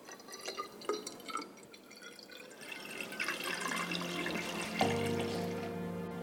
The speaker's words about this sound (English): Next, they mix the dyes and add water to a cylinder.